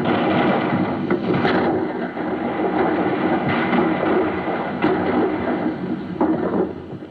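A steady, muffled roar of cannon fire comes from an old recording played on a turntable as a sound effect. Occasional sharper booms rise out of the rumble every second or two; no one speaks.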